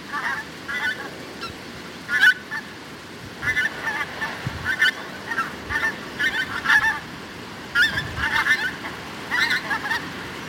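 Pink-footed geese honking in flight over Fala Moor, where they overwinter, a flock calling repeatedly in overlapping bursts over steady wind-like background noise, with no talking.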